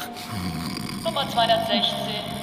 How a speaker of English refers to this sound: stop snoring.